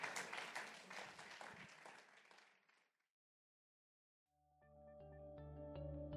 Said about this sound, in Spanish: Póngase de pie. Y déle un fuerte aplauso a Jesús. Déselo fuerte.